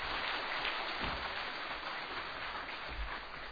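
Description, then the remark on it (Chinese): Steady applause from a church audience welcoming visitors, a dense crackle of many hands clapping at once, holding an even loudness throughout with no voices on top. “我们一起给先给他们先目前先鼓掌。”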